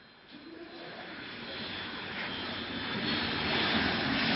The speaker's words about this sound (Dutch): En inmiddels vliegen we boven Rotterdam. We zijn zeer snel gestegen.